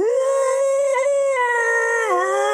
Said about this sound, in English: That's what happens on this creature. And it just lets out an incredible roar.